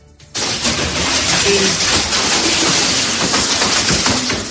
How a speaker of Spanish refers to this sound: Lluvia y, como escuchas, granizo en varios puntos de la Ribera Valenciana, como en Benaguacil o en la Pobla de Vallbona.